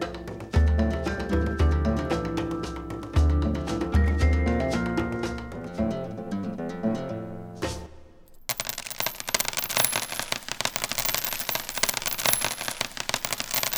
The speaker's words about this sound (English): Hear that? That's the sound of money pouring into the world's largest fossil fuel companies. Those are the corporations involved in oil, gas, and coal.